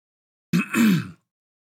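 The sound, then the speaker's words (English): A single short throat clearing by a speaker who had not muted the microphone, a rough two-part "ahem" lasting well under a second, fairly loud, with silence before and after and no talking. “I had to clear my throat a little bit and I didn't hit my mute button.”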